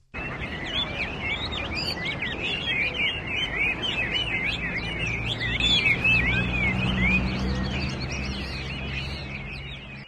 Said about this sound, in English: No, the pigeons have not had voice training. Those are Hua Mei birds, and they come and hang out with their human owners in Chinatown's Sarah D. Roosevelt Park.